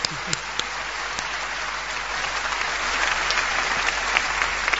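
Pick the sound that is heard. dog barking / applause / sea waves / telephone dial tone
applause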